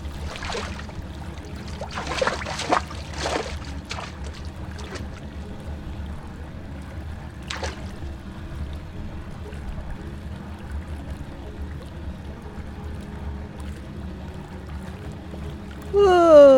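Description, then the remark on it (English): Water sloshes in a few quick splashes near the start in a hot, bubbly spa pool at a hot spring, then settles into a steady low trickling and bubbling murmur; a voice rises briefly at the very end. “Hot water always makes me yawn, especially if it's properly hot, like this.”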